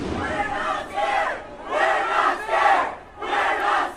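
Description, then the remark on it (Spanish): Pro-Palestinian students at UCLA in Los Angeles chant and shout "No tenemos miedo" ("We are not afraid") as police clear their Palestine solidarity encampment. They chant together in loud, rhythmic bursts, three surging phrases with brief dips between them, the many voices blending into a forceful, unified roar. “Gritaban: "No tenemos miedo".”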